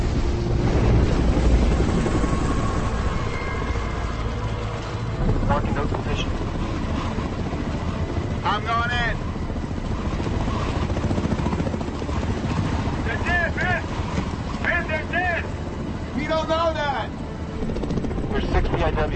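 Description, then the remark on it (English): A helicopter hovers over the sea during a hover search for heavy debris in the water, its heavy rotor roar steady and loud for the whole stretch, while voices break in briefly a few times over the engine noise. “We have heavy debris in the water, commencing hover search.”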